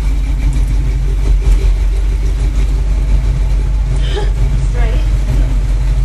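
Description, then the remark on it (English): A motor engine rumbles steadily and loudly throughout while dogs are being worked, a deep continuous drone with a constant low hum, while a few brief, fainter sounds rise briefly over it partway through. “We're going to hear the rumbling of the motor over the dogs.”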